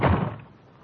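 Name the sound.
door slammed shut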